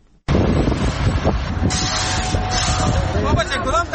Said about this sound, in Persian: اینجا ماشین های غول‌پیکر در حال کار هستند. چهره مرکز شهر چاریکار در حال تغییر است.